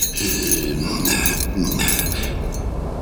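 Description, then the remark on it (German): A large bunch of keys jangles and clinks steadily for a few seconds as it is searched for the right key, bright metallic jingling with small bursts of louder rattling, no voices. “Da sah der gute und getreue Johannes, dass es wohl nicht mehr zu ändern war, und suchte mit schwerem Herzen und vielem Seufzen aus dem großen Bund den passenden Schlüssel heraus.”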